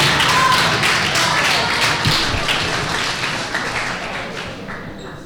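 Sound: audience applause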